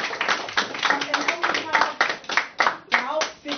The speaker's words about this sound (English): Please give a round of applause to all of our presenters today.